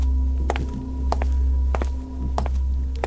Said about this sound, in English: It's a lot of footsteps.